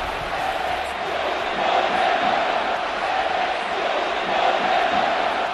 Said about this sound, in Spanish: El escudo no se toca, lo gritaba al unísono todo el estadio Metropolitano, la afición del Atlético de Madrid prácticamente al completo.